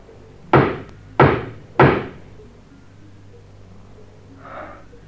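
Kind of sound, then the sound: household object, knocking on a door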